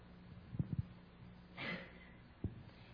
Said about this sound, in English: Coughing.